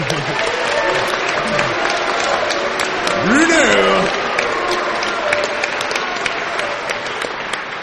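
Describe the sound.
A crowd applauds a speaker after his talk, steadily for the whole stretch, a dense crackle of many hands clapping at once. Midway, one voice shouts a name over it before the clapping carries on.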